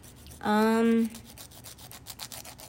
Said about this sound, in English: I'm not sawing into things. I'm just filing my nails.